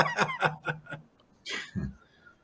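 A pet parrot, heard live on air, gives a quick run of five or six chattering, laugh-like calls, then a harsh raspy squawk and a lower grunting note, fairly loud.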